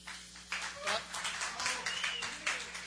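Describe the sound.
Audience applause at a live session for a guest from The Sounds of Brooklyn and Beyond begins about half a second in: a dense, continuous wash of many hands clapping at moderate volume, with faint voices mingling underneath.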